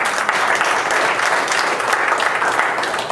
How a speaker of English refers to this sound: Give a hand of applause.